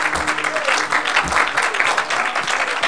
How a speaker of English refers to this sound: Clap your hands to the Lord, everybody.